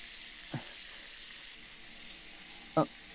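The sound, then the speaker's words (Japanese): Shower water runs in a steady, even hiss from a shower head fixed up high, rinsing someone's back, broken by two brief, higher-pitched squeaks or clinks, one faint early on and a louder one near the end. “シャワーを上に固定しますね。”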